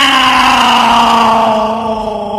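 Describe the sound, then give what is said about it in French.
A person's voice imitates a cat's meow as one long, loud, sustained vocal tone that drifts slightly downward in pitch and fades a little toward the end. “Non, tu sais pas le faire. C'est un chat, ça.”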